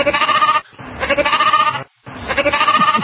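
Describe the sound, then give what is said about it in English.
A sheep bleats three times in quick succession, each call loud and quavering, with brief pauses between them and no talking. “Now, that sounded like a sheep that was tucking tail.”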